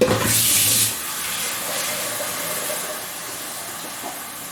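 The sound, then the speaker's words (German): About 2 liters of water gush into a large, wide cooking pot with a loud, bright splash for about a second, then settle into a steady, softer rushing stream, with no voices. “Großen großen weiten Topf und ungefähr 2 Liter Wasser. So jetzt pro forma Maß, 2 Messlöcher voll.”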